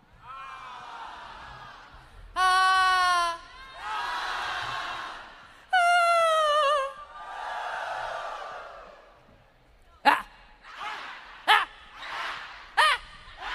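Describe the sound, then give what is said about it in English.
A large crowd screams together in several loud, sustained swells, each rising and fading, followed by a run of shorter, sharper shouts near the end. “Now one really big, loud scream so you can hear it on 19th.”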